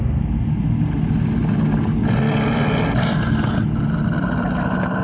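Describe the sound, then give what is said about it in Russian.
A deep, rumbling roar from behind a rock, the voice of Shere Khan, fills the whole stretch, heavy and muffled in the low end, swelling brighter and rougher for a moment midway before settling back into a steady growl. “Глухой рев донесся из-за скалы.”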